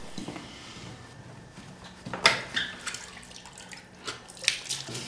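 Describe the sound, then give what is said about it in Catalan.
Water runs and splashes in uneven bursts, with a few sharper splashes standing out as someone angrily washes their face at a tap in a washroom. No voices are heard. “Es renta la cara, rabiós, i posa la mà sota l'assecador, que no funciona.”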